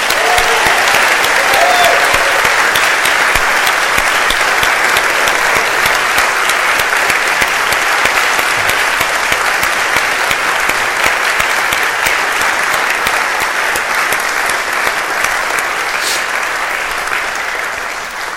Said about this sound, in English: So I just wanted to give the opportunity for the community to give them a round of gratitude, applause like we've never heard.